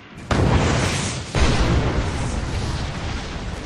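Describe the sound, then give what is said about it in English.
A loud explosion erupts from the ground beneath soldiers' boots at night, quickly followed by a second blast, then a heavy, roaring rumble of debris that stays strong and only slowly fades. “Scowling thoughtfully, the lieutenant started to speak when the ground thunderously erupted beneath their boots, sending their broken, twisted bodies hurtling into the starry sky.”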